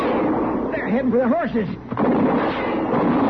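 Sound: gunshot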